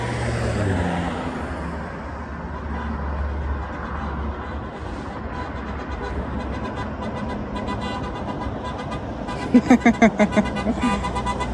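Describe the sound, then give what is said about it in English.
Steady road traffic rumbles at a bus stop, engines droning continuously, with a brief burst of quick horn toots near the end and faint voices mixed into the street noise. “Thoughts at the bus stop.”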